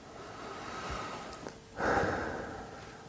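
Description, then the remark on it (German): A slow, deliberate, conscious deep breath: a soft airy inhale followed by a fuller, louder exhale, heard alone with no talking. “Bewusstes, tiefes Atmen.”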